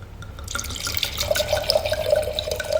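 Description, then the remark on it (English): An old-vine rosé wine from Liguria pours steadily into a glass, a gurgling trickle with a faint rising ring as the glass fills, lasting a few seconds with no talking. “Can I pour you another glass of wine?”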